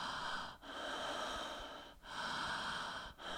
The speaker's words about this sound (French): C'est-à-dire qu'on fait des entrées, on est derrière son masque, on regarde le public et on respire. Et simplement avec cette respiration, où là, on va... Une respiration toute simple.